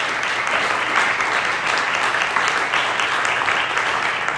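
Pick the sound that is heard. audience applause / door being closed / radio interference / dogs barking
audience applause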